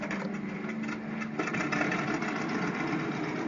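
A steady, rough engine drone runs throughout, with a rattling, sputtering quality as World War II piston aircraft engines are started and warmed up before a mission amid ice and snow, shifting slightly in pitch partway through.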